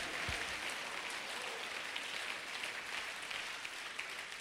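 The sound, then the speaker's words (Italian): An audience applauds steadily to bless the name of Jesus, a dense sustained wash of many hands clapping at once, without pause and with no voices rising above it. “Vogliamo applaudire e benedire il nome di Gesù.”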